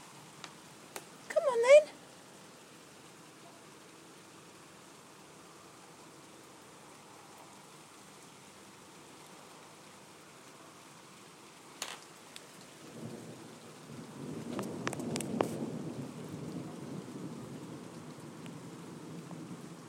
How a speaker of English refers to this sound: No, it's quite a disappointing kind of storm, really.